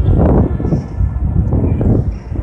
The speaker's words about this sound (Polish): No i pociąg mi tu jedzie. Chyba nie będzie mnie słychać. No nie wiem. Aha, ale to taki nieduży pociąg, ale zaś z drugiej strony jedzie, trochę większy.